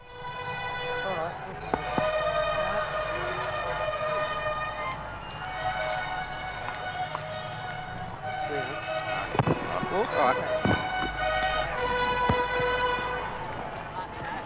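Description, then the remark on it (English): A brassy fanfare of sustained, ringing notes plays loudly over a busy outdoor crowd of thousands, with occasional sharp bangs and shouts, at the send-off for the last tram in Streatham and Croydon on April 7th, 1951. “It started with a fanfare.”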